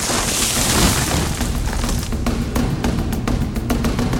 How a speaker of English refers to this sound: Then he blows as hard as he can. The grass house falls down.